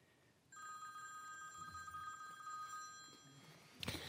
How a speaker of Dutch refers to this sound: Daar gaat een telefoon en iemand in Groessen moet iets oplossen volgens mij. Sorry. De telefoon uitzetten dus.